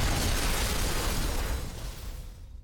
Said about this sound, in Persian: از پشت تپه ها برق می جهد و غرش رعد شنیده می شود.